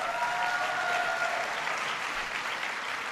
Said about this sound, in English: Give Ben a big round of applause.